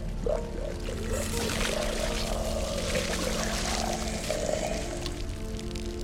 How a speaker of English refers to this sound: Ripper curls into a ball and shrinks. Liquid leaks out of its body.